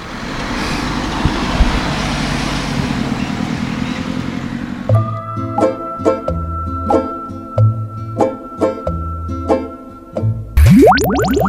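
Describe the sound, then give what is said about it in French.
Steady street traffic rumble with passing engines in the town centre of Hennebon at about 11:10 fills the first few seconds, then gives way to a rhythmic plucked musical pattern and ends with a quick rising boing. “Donc, ma marche reprend, là, je suis au centre-ville de Hennebon, il est 11h10 à peu près, 11h05.”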